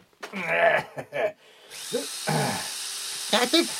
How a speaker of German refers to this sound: Irgendwann wirst du aufhören müssen zu bohren.